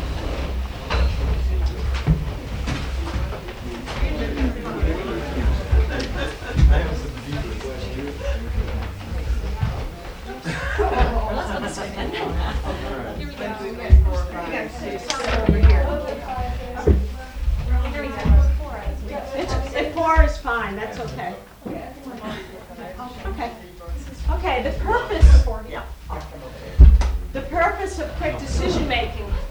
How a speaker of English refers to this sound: And to do that, if you could get yourselves into groups of five, just turn your chairs around quickly and get into a group of five, and then I'll give you the instructions.